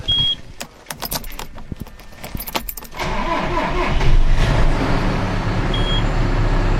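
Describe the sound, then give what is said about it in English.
Keys jingle and click for a few seconds, then the engine of a farm tractor, the owner's first tractor, turns over and catches, settling into a loud, steady low rumble that continues to the end. No one speaks. “Okay, this is my first tractor.”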